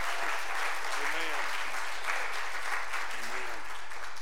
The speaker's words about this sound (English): Look at her, we're clapping for you, boy.